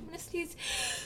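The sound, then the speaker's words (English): A short spoken phrase is followed by a sudden, breathy sneeze that bursts out loudly, ending in a sustained hiss of air. “Chew! Bless you.”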